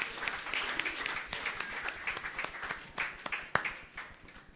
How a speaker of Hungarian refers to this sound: Köszönjük, csapat! Köszönjük! Nagy tapsot nekik!